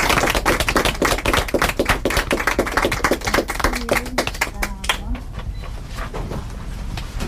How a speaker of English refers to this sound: Big round of applause.